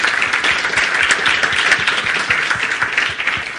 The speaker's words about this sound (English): Okay, so maybe let's give our panelists a round of applause. Thank you.